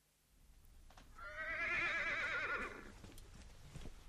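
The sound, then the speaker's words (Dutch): A scrawny, emaciated horse whinnies loudly in a stable, a single long, quavering neigh lasting a couple of seconds before trailing off into quiet stable background noise. “Och, wat een scharminkels. Dat paard.”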